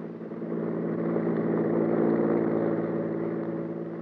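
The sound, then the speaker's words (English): Maxton's car engine roars as it whips by on the road, swelling quickly and holding a steady, throaty hum for a few seconds before easing slightly at the end. No voices. “Maxton's car whipped by.”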